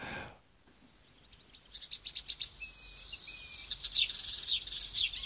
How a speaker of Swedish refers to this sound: Vi tar och ser om vi kan höra lite på kärresångaren.